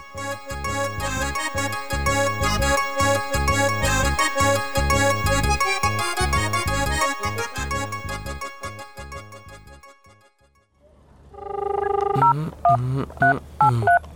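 Telephone keypad dialing tones as someone tries again to call a number that will not connect: a quick series of short electronic beeps near the end, clear, following a long stretch of steady, rhythmic, busy electronic sound.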